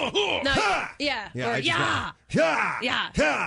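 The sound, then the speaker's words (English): A voice imitates martial arts striking yells: a rapid series of loud, strained shouts with rising and falling pitch, separated by brief pauses. “But you're supposed to use whatever sound feels natural to you when you're striking.”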